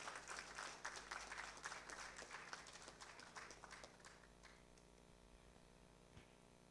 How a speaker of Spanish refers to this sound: y seguidamente las palabras de la homenajeada con la Orden Nacional al Mérito Comuneros, la artista, compositora y activista social, la señora Teresa Parodi, a quien recibimos con un fuerte aplauso.